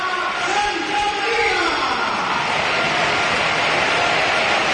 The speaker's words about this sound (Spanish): y hay cambio y es Gorka el que se va. Y ojo a la ovación que se va a llevar, ¿eh? Sí. Público en pie, ¿eh?